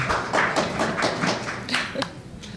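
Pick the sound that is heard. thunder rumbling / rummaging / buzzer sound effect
rummaging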